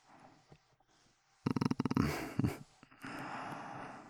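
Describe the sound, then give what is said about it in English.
Ragged gasping breaths of a person being choked with a hand around the throat: a quick stuttering burst of sharp intakes, then longer raspy, strained exhales, with no talking. “Or I can choke you. I like your little gasps.”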